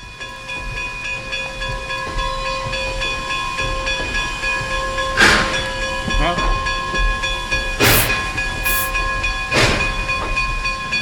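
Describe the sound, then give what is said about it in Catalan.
A steam locomotive rumbles steadily with a droning mechanical hum, broken by three or four loud bursts of hissing steam. No voices. “Sí, però clar, vull dir, quan parlem, per exemple, de la màquina de vapor...”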